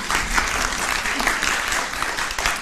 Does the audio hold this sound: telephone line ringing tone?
no